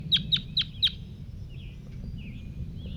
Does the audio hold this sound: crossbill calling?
yes